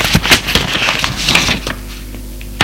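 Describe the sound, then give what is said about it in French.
A woman takes paper at her writing desk to write a letter: paper crackles and rustles in a series of quick, sharp bursts for about a second and a half, then quiets, with a single crisp rustle near the end. “Prend du papier,”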